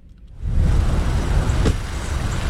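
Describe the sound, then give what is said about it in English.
A line of cars wrapped around a parking lot at Santa Fe College idles and creeps along before 9 in the morning for an annual Alachua County recycling event, making a steady low engine rumble that swells in after a quiet start, with a brief sharp hiss partway through. No one speaks. “A line of cars wrapped around the parking lot, and it's not even 9 in the morning.”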